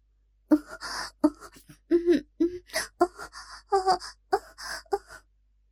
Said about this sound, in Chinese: 最近的树林中，突然传来若有若无的喘息声，落在潘金莲这种久经人世的女人耳中，一听就知道是男女操逼的声音。